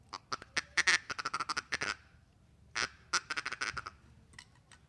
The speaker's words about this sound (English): Oh, it was a duck call. It's a feeding chatter, and you can also do this with a duck call.